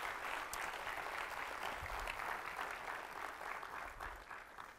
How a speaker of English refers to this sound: Can y'all just give them another round of applause for getting up there?